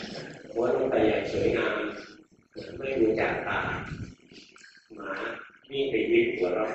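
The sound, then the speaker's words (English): A person imitates a dog with their voice, making four rough, drawn-out growling and barking sounds in quick succession, fairly loud, with short pauses between them. “And the dog just ran away.”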